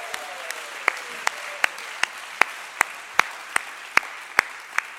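Audience applause: a steady wash of clapping from a crowd, with one pair of hands standing out in sharp, evenly spaced claps about three per second throughout.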